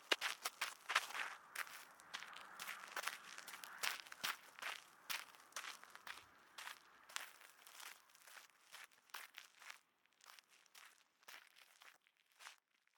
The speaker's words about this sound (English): I hear his footsteps moving away.